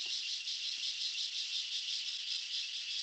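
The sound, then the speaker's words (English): Cicadas in the mountains buzz in a continuous, high-pitched electric drone that holds steady without a break, a dense wall of insect noise with no voices present. “So if you can hear the sounds, please excuse the insects, but there's a cicadas.”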